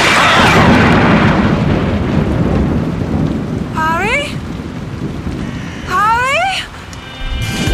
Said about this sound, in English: Harry, you really should get away from that oak. The lightning will be striking any moment now.